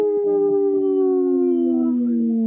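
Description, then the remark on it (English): People imitate a wolf howl for a Howling for Wolves segment on Native Roots Radio: a long, loud, sustained howl that slides slowly downward in pitch, with what sounds like a second voice joining in beneath it. “This portion of the show is supported by Howling for Wolves, protecting wolves for future generations. Howl!”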